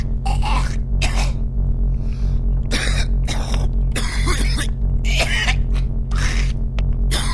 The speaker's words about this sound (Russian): Лечебный, седативный, амбиентный кашель, да?